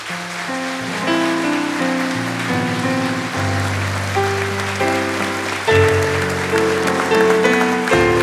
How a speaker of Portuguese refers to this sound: Você pode dar uma salva de palmas para eles?